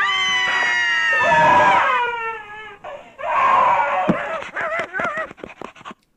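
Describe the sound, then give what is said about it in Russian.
A cat meows in long, wailing yowls, loud, the pitch bending up and down through several drawn-out cries that end in shorter, wavering mews. “Что можно сказать, сейчас явно не время плакать, а нужно подумать, как избавляться как минимум от кошки.”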